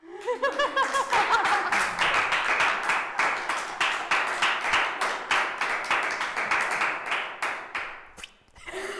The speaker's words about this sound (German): Da will jemand klatschen.